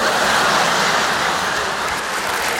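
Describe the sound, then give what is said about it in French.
A toilet flushes, a loud, steady rush of water that holds at a constant roar throughout without fading, with no voices present. “Top, record battu, je vais pour sortir, je tire la chasse d'eau”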